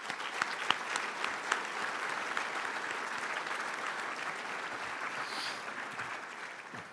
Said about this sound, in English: And the way that this class has came back spiritually is amazing. And I think our parents should give our students a round of applause for that.